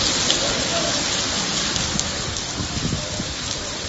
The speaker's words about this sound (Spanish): Ha vuelto la lluvia.